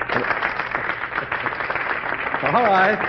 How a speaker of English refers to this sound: All right. I accept that applause as a tribute to our loyal choir.